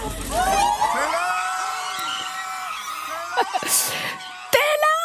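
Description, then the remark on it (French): A large crowd of fans at a concert screams continuously in high-pitched, overlapping shrieks and cheers, loud, with a few sharp bursts of noise near the end. “Tiens, on va écouter des cris de fans.”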